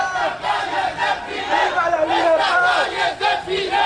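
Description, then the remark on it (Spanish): A large crowd of Cuban regime supporters carrying red flags shouts in Mexico, loud, sustained chanting, many raised voices overlapping in a dense, steady roar with rhythmic surges and no pauses. “Así gritaban en México con banderas rojas cuyas astas usaron simpatizantes del régimen cubano para golpear a los que pedían libertad para los presos políticos en Cuba.”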